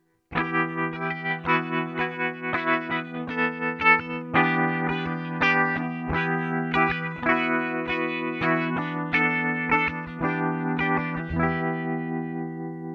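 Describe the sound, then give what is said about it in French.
A clean electric guitar, with the gain set to the middle, plays sustained chords through spring reverb and tremolo, the tone pulsing in a quick, steady rhythm. It sounds fairly loud, with no voices, and the last chord rings out. “Alors si tu as envie un petit peu de lui mettre un peu de profondeur, alors je mets une petite reverb spring et par exemple un trémolo.”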